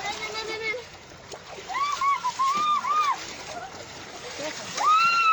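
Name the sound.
children splashing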